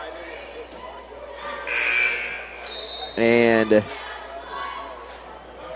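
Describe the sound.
A basketball scorer's table buzzer sounds once at the Bird's Nest, a loud, harsh, half-second blast over steady gym crowd noise, signalling a player coming into the game, with a commentator talking before and after.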